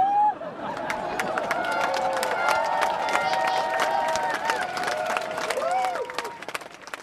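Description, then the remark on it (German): A large rally crowd of nearly 10,000 people on the Rhine island, on the stretch from Neuenburg over to the Alsatian French side, claps and cheers steadily on a Sunday for several seconds, dense crackling applause mixed with raised, sustained voices and shouts, fading slightly at the very end. “Soweit nochmal ein kleiner akustischer Eindruck von der Kundgebung der knapp 10.000 am Sonntag auf der Rheininsel, auf dem Strecke von Neuenburg rüber auf die elsässische Seite des französischen Staatsgebietes.”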